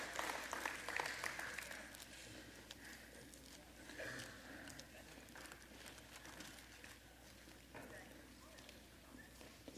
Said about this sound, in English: Y'all come give a big round of applause.